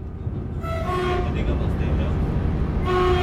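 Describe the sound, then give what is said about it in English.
A passenger train from Paris to Brive-la-Gaillarde rumbles steadily along a non-TGV line through central France, loud, its deep rolling noise joined by sustained tonal notes that swell in the middle and again near the end. “the first train I needed to take was the train to Brive-la-Gaillarde”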